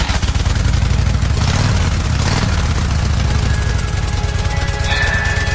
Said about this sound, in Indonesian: Kami berangkat menggunakan sepeda motor.